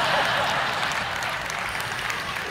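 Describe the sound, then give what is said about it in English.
A crowd applauds steadily, many hands clapping at once in a dense, continuous wash of sound that stays loud and even from start to finish. “I don't know why you're clapping at that, but all right.”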